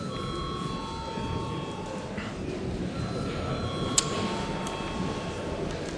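A parliament bell rung before a vote rings steadily for several seconds, a sustained metallic tone over a low background murmur, with one brief sharp click partway through.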